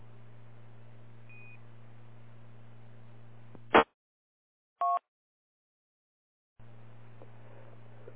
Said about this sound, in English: I just came in the radio room there and heard you among all your tones.